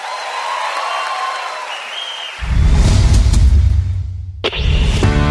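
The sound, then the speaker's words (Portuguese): An audience applauds in a dense, continuous patter of clapping that swells louder partway through, with a crowd murmur underneath and a brief swoosh near the end. “Mais aplausos.”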